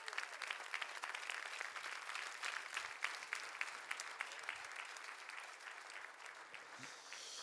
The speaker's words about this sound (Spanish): Dese su mejor aplauso.